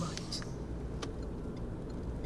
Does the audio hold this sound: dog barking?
no